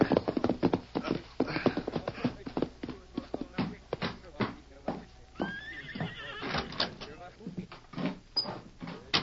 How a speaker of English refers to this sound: reined up his horse in front of the Cattleman's Bank in Blue Mesa.